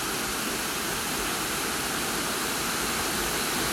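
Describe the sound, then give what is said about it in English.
A steady, loud roar of water pouring down a waterfall about 10 to 15 metres tall in two prongs, crashing white over dark rock surrounded by green moss; a dense unbroken hiss and rumble that stays constant throughout with no voices. “There's two prongs of water coming down over the falls. It is crashing down white over the dark rock and contrasting beautifully with the green moss that surrounds it.”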